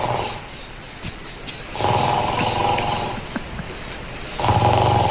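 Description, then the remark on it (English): A sleeping person snores in a steady rhythm: two long, loud, rasping snores with a rattling low buzz, separated by a quieter gap of breathing. “It's a good consistent flow of snoring”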